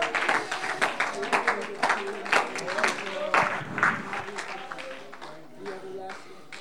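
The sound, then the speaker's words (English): An audience claps its hands in a brisk, uneven patter of many sharp claps, with voices and a sustained tone underneath, the clapping thinning out toward the end. “Somebody ought to clap your hands and thank God for the miracle that he's done.”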